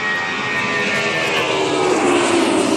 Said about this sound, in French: Et puis le FA-18 suisse, ou le FA-18 en général, quand il passe le mur du son, les ordinateurs qui sont dans l'avion compensent tous les effets aérodynamiques qui se passent.